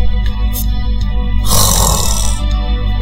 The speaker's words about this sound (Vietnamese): Không phải chứ, thoáng một cái mà đã ngủ cò quay, lại còn ngáy nữa.